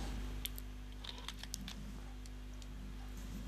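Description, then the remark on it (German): A few sharp, scattered snips and light crinkles of a second layer of packaging around a ring being cut open with scissors, fairly quiet, over a steady low background hum with no talking. “Das ist noch mal verpackt. Jetzt brauchen wir doch noch mal eine Schere.”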